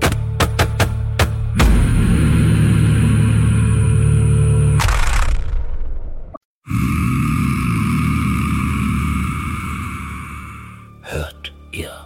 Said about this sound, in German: Er klammerte sich verzweifelt an den roten Schuh, während der Staubsauger versuchte, ihn und alles andere in die Tiefe zu reißen.